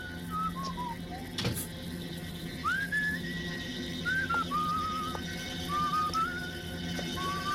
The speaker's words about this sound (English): So you can hear … whistling. He's just coming through the door. He suspects the ninja's there, though.